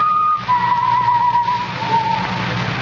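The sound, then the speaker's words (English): A person whistles a few sustained notes of a tune somewhere in a building, shifting between pitches, over a steady background hiss and low hum. No one speaks. “The whistling was somewhere in the building.”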